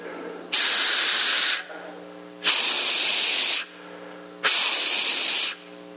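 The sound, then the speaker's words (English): A voice imitates the hiss of a 1980 model CPAP machine: three loud, breathy hissing bursts, each about a second long, repeating at a steady breathing-like rhythm with brief, quieter pauses between them. “One is the sound of a 1980 model CPAP machine.”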